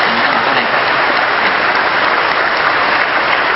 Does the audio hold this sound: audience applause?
yes